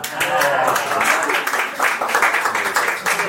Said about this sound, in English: Last answer I ever expected was sausage weight guessing. So I think that deserves an extra round of applause.